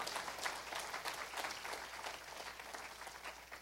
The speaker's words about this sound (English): Amen? That's a good place to give a hand clap of applause or God some praise.